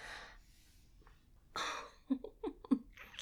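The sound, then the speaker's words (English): Heavy breathing: long, airy exhales followed by several short, sharp voiced catches of breath in quick succession, with no speech. “You're breathing so hard, sweetie.”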